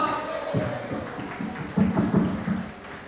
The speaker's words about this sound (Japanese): 最後まで盛り上げていただきました…の皆さんにぜひ拍手をお願いします。…の皆さんは本当にありがとうございました。拍手をもう一度。